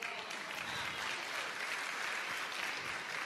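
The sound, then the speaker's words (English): Steady applause from many people, a dense, continuous patter of many hands clapping at once for a few seconds, with no voices standing out. “Some people are clapping.”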